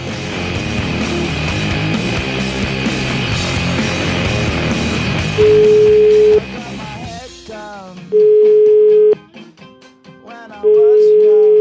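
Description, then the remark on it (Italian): An outgoing call's ringing tone: three steady one-second beeps, spaced a few seconds apart. They are loud and clear, at first over busy background music that fades out. “Chiamiamo?”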